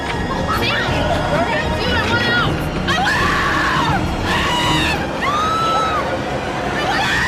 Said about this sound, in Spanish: Para muestra, un botón. Si quieres, podemos escuchar los gritos de la gente que entra en este sitio.